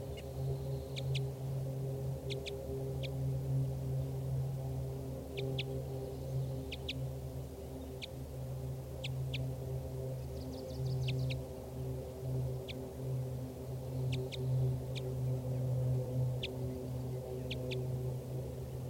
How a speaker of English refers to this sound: Flight calls here by the wild female.